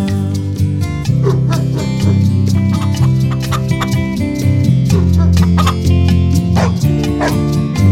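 A dog barks and yips several times in short bursts over a steady, continuous musical backing with no talking.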